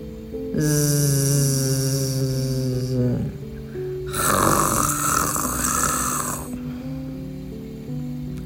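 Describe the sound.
A father snores loudly in two long, rasping breaths, each with a harsh buzzing rattle, separated by a brief pause, prominent with a low droning hum beneath.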